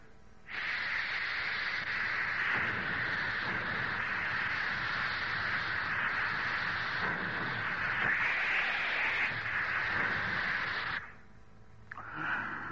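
An old, giant steam locomotive in a station lets out a loud, steady roar of escaping steam for about ten seconds over a low rumbling undertone, then the hiss cuts off abruptly and a short, fainter burst follows.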